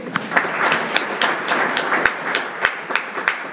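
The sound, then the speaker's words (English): A crowd claps steadily for a few seconds, a dense patter of many hands with some sharper individual claps standing out, moderately loud, with no talking. “Give him a clap.”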